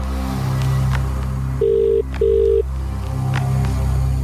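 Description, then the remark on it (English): A ringback tone on an outgoing phone call: one double burst of two short, steady electronic tones separated by a brief gap, heard over a low background hum with no one talking. “Let's give it a call. All right. See if he answers.”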